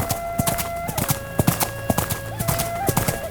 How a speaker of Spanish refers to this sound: Un relincho se escuchó desde el Cerro de las Cruces, la casa profunda donde habita la serpiente. Los dos hermanos pararon en seco el pleito y cuando voltearon a ver el cerro, vieron bajar de él a una yegua negra.